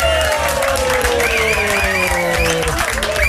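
A crowd applauds loudly and steadily, dense clapping filling the whole clip, with a few cheers and some sustained musical tones gliding downward underneath.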